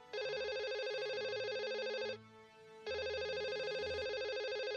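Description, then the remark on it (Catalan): Loud electronic ringing like a telephone from the oldest slot machine. It is a jackpot alarm that goes off after a last coin is put in and the lever is pulled. It comes in two long bursts separated by a short pause, steady with a bright, buzzy tone and no voices. “se'n va anar a la màquina escurabutxaques més vella i va anar a tirar l'última moneda i després va tirar de la palanca i de cop va sentir un soroll com el d'un telèfon.”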